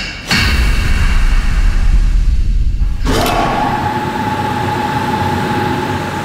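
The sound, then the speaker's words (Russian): A sealed test chamber is closed and its air pumped out. A heavy thud gives way to loud, steady rumbling, then a sudden sharp blast of a shaped-charge munition, fired to test protective plates, cuts in, followed by a sustained mechanical drone with a steady mid-pitched hum. No one speaks. “Итак, камера закрывается, откачивается воздух, взрыв.”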